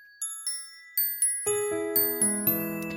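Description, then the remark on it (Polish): Easter church bells ring in a steady peal, high bright strikes at first, then deeper, fuller bells join in and keep chiming in a regular rhythm with long ringing tones, with no voices. “Pomagały jej w tym wielkanocne dzwony.”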